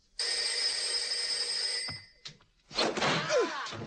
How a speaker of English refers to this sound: Inspector Clouseau's residence. The phone is ringing.